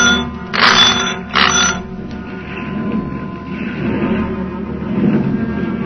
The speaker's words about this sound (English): The returning pulse of the engines, like a reviving heartbeat, seemed to bring the ship back to life.